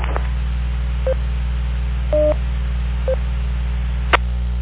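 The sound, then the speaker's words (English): Several short electronic DTMF touch-tone beeps on an EchoLink radio link sound at spaced intervals over a steady low hum and hiss, with a longer two-tone burst in the middle and a brief click near the end. “Echo link action in there.”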